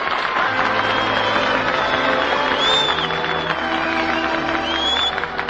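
An audience applauds loudly and steadily throughout, a dense wash of many hands clapping at once, with faint crowd noise and a few thin whistling tones drifting above it.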